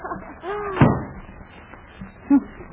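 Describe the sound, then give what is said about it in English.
A door at City Hall creaks briefly and then bangs shut with a single loud slam, followed by quiet background rustle and a short faint squeak near the end. “Let's see, there's two doors here. I'll just try this one.”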